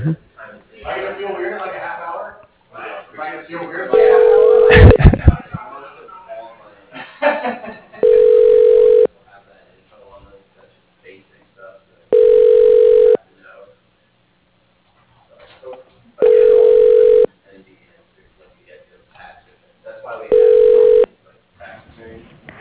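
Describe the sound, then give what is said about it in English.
A telephone ringback tone sounds five times, each steady electronic ring lasting about a second, spaced evenly several seconds apart, after a brief stretch of talking at the start, as a call is transferred to a voicemail. “But I will transfer you over to her voicemail.”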